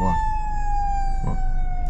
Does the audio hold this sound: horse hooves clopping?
no